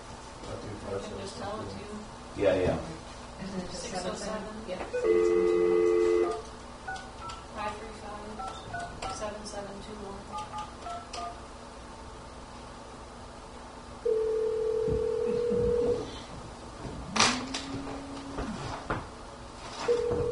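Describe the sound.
A telephone is dialed to call a couple on Mother's Day, with short steady electronic tones and a longer dial tone between clicks and handling noise, while faint voices murmur in the background.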